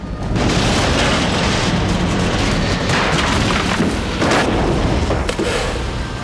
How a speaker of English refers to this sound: the plane rapidly descends into the clearing that's littered with fir trees and covered in snow. The steering column of the aircraft trembles in Rick's hands. Rick leans forward, but as the plane hits the ground, he's thrown back.